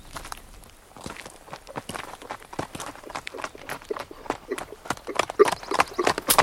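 Horse hooves clip-clop in a quick, steady rhythm of sharp knocks that grow louder over several seconds, with no voices.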